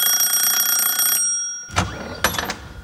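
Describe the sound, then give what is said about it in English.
A house doorbell rings with a steady, high, buzzing electric tone for just over a second, then stops. After a short silence come two sharp clunks. “Okay, Graham and Marcus, I'd like you to be the salesman in this round, while Joe and Tony will be the owners of the house on whose doorbell salesman Graham and Marcus are about to ring.”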